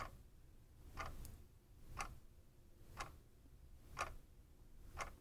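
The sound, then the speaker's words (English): A clock ticks steadily, one sharp click roughly every second, over a soft low hum. The ticks are clear but fairly quiet, with no voices present. “Let your awareness settle on the ticking of a clock.”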